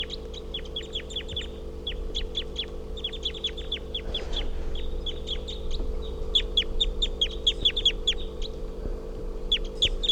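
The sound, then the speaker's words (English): A female wild bird, number 351, calls loudly in rapid bursts of short, high chirps while on the ground hopping around, pausing briefly before resuming, over a steady low mechanical hum. No one speaks. “And I think these are the calls of 351 here.”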